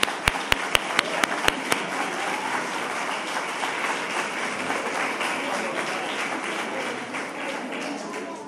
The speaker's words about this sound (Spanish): A ver, esos voluntarios, por favor. ¡Voluntarios! ¡Un aplauso para la voluntaria!